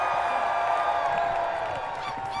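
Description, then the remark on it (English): A large outdoor festival crowd at Druid Hill Park screams and cheers together on a countdown in one loud, sustained roar, many high voices blending into a steady wall of sound with occasional whoops rising above it. “On three, one, two, three, just scream.”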